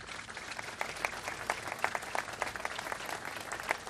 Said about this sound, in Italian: Penso che dobbiamo dire un grande grazie a chi ha accettato tale sfida qui a Malta e ha dato vita a questo centro. Lo facciamo con un applauso tutti insieme.